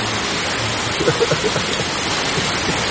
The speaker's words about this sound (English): Did it ever rain this hard when we were giving class? Have we ever had this heavy of a rain during class? Yeah. We have. Yeah, we have recordings. It's really heavy.